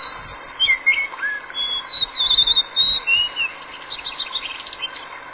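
A blue whistling thrush sings a string of clear, sliding whistled phrases over a steady rushing background like flowing water, with a few low thumps underneath.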